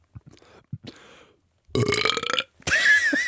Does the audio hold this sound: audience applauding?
no